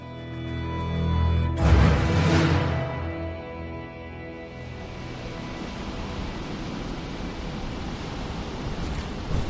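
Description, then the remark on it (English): A roaring dust storm in a wasteland, with a loud whooshing gust early on, settling into a steady, dense rush of blowing air that fills the whole scene; no voices. “In fact, he found himself smack dab in the middle of a gnarly dust storm.”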